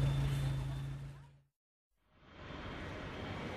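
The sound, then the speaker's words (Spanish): A car engine hums steadily and then fades out, leaving a short silence before a broad vehicle rumble swells back in and holds, a car driving to Valladolid. “Pues voy a Valladolid en coche.”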